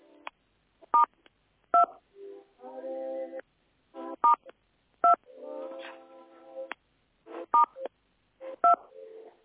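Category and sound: signal or alarm, telephone keypad dialing tones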